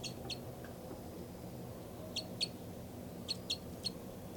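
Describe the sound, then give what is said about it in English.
A tracked bird, number 273, gives short, sharp, high-pitched calls while flying, about seven in all, mostly in quick pairs spaced a second or so apart, over a steady low rumble of background noise. “And 273 is giving the calls here.”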